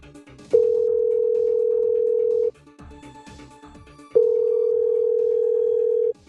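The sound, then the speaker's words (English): Two long, steady ringback tones of an outgoing phone call to Riverton Tractor Supply, each a flat mid-pitched hum lasting about two seconds with a pause between, over faint background noise. “Hello, thank you for calling Riverton Tractor Supply.”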